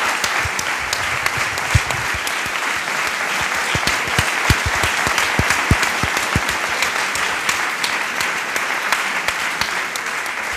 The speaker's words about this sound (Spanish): Un aplauso.